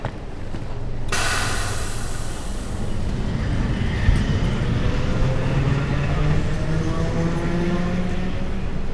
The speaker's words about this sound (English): Is this our train?